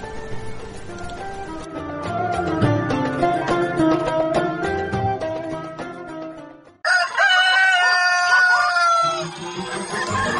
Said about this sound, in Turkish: Evet, az önceki sesi unutmuşsundur, Denizli'nin horoz sesini. Duy sevgili kardeşim, duy, özlemişsindir sen bu sesi.